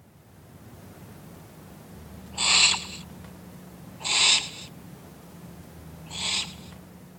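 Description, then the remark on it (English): An owl calls three times, each call short and spaced about two seconds apart, standing out moderately loud over a steady low background rumble with no voices. “An owl can see in the dark, and it is very quiet.”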